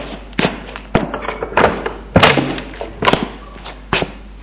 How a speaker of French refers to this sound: Frédéric le suit en colère, le dépasse et lui ouvre la porte.